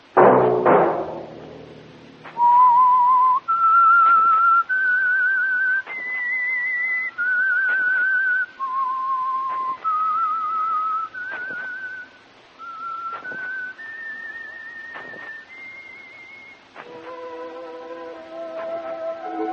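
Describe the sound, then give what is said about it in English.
A solo whistled melody of clear sustained notes stepping up and down in a slow tune, loud, with orchestral chords entering near the end; the signal theme of the radio program The Whistler, brought by the Signal Oil Company. “That whistle be your signal for the Signal Oil program, The Whistler, each Wednesday night at the same time, brought to you by the Signal Oil Company, marketers of Signal gasoline and motor oil and fine quality automotive accessories.”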